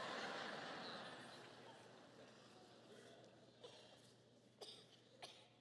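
During a sermon, a breathy burst of coughing from a listener fades out, followed by a few short, sharp coughs spaced a second or so apart, fairly quiet.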